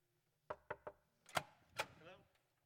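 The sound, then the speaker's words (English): Three quick, evenly spaced knocks on a door, followed by two heavier, broader bangs and a brief murmur of voice trailing off at the end. “He's knocking at the door.”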